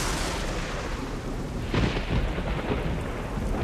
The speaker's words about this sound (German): Die Regenzeit hat spät begonnen in Sumatra, jetzt aber schüttet es umso heftiger.